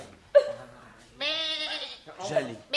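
A goat bleats in three bursts, a short cry, then a long, quavering bleat, then another brief one, fairly loud and clear.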